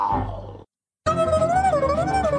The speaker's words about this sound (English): That's the noise that the bear makes.